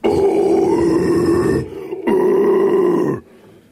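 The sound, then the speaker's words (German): Two long, raspy growled vocal bursts of the growling singing technique, each about a second and a half, rough and harmonically dense with a low throaty rumble, separated by a brief pause; loud, with no talking. “Das ist Growling.”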